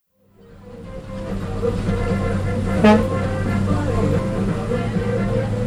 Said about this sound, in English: Okay, we're on route to San Jacinto. This is the number 5 bus going to downtown. These are like old school buses from the United States that they send over here, paint them up, and they use them for public transportation.